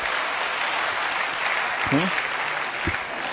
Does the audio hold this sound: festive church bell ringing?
no